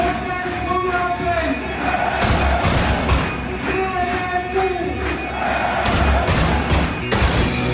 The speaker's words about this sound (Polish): Przenieśmy się raz jeszcze do Norwegii. Tym bardziej, że tam mimo braku goli było naprawdę gorąco. A podczas wyczytywania składu ekipy gospodarzy wybuchały i to podobno całkiem legalnie kibicowskie petardy.